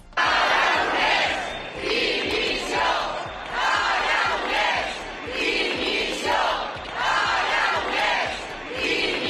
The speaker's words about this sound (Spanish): Gritos de dimisión dirigidos contra Per Aragonés en Gerona llegaron incluso a quemar una imagen de Per Aragonés.